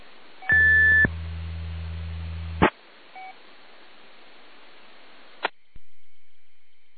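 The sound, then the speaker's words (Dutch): A short, steady 750 hertz radio tone sounds briefly over a bed of hiss, alongside a higher beep, a low buzzing burst and a couple of sharp clicks; no one speaks. “Ik hoorde wel een 750 hertz toontje, maar ik weet niet wat dat was.”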